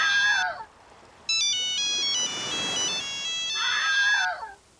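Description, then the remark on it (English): A bright electronic phone ringtone plays a quick stepped melody of high synth notes, loud, with warbling chirp-like sweeps just before and after it. “Hey, Scary Gary, I think your phone's ringing.”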